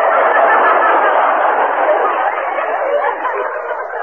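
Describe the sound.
A rooster crows loudly, one long, harsh, sustained call that fills about four seconds with no pause and no talking over it.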